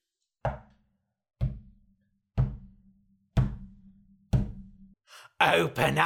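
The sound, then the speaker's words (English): The big bad wolf banging on the walls of the woodcutter's house: five heavy, evenly spaced bangs, each a loud thud with a deep booming ring that lingers, followed by a sudden loud, breathy sigh. “He was walking around the woodcutter's house, banging on the walls.”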